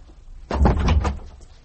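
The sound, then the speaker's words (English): A bedroom door being opened: a short wooden rattle and clunk lasting under a second, moderately loud, followed by quiet. Nobody speaks. “Now, open that door”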